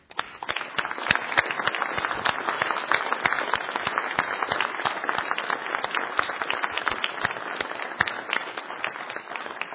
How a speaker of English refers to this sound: Moms, stay seated. Everybody else, stand. You might have to put your Bible down, because we are going to give a respectful round of applause to our moms to call them blessed this morning.